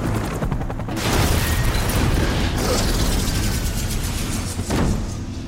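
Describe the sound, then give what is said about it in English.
In the film Die Hard, McClane's car smashes through a toll booth and launches into the air at a helicopter: a loud, chaotic burst of smashing and grinding debris, with sharp impacts flaring up again partway through and near the end. No one speaks. “McLean's car smashes through a toll booth, launching into the air straight at the chopper.”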